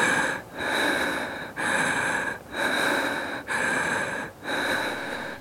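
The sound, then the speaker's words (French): Loud breathing in a steady, calm rhythm of inhaling and exhaling during a guided breathing exercise, about five breath cycles with brief pauses between them, heard alone over a faint constant tone and no talking. “On inspire et on expire avec toi, tranquillement, voilà.”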